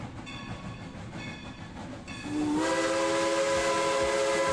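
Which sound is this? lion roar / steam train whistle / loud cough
steam train whistle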